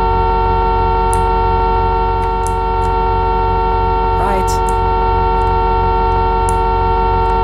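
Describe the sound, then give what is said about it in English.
A car horn honks over a constant, droning engine hum, with a brief rising sweep midway and a few faint clicks scattered throughout. “But you can honk like this.”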